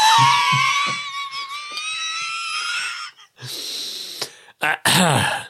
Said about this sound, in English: Well, gentlemen, what do we think of the nasal appraisal? Oh, I'm sniffing the microphone. The microphone smells very fragrant.